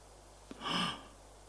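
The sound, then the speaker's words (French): A single heavy, breathy exhale from a man out of breath as he quickly gets back up, rising and fading over about half a second. It is fairly soft against a quiet background, with no talking. “essoufflé, vite, il se relève.”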